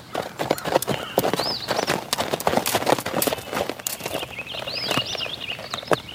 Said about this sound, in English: A tall, masked man brought his white horse to a stop in the gray dawn.